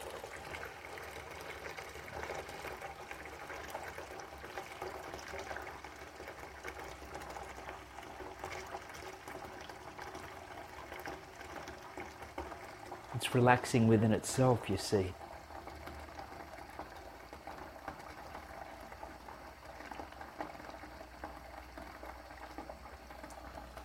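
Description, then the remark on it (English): Water runs steadily throughout, a continuous rushing hiss that briefly swells louder partway through, while a calm voice speaks a few words over it. “So use the sound in itself as a meditation, the sound of running water.”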